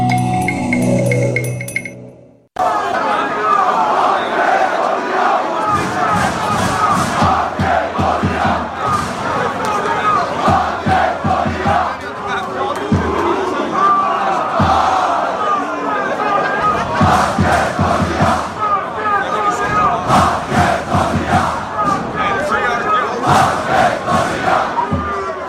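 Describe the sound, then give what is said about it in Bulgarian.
A crowd of about 6,000 chants together at a football match at the Preston Lions stadium, BT Connor Reserve, on a Tuesday evening, a loud, continuous roar of rhythmic voices with surging swells, following a brief different sound at the very start. “Доколку бевте меѓу 6.000-ната публика на стадионот на Престон Лајонс на BT Connor Reserve во вторникот вечерта, ке уживавте во вистинска спортска атмосфера.”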